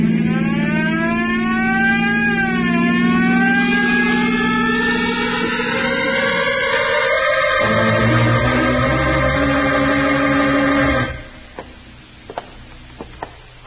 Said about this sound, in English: You better go a little faster, then. That's a good idea. Use that siren.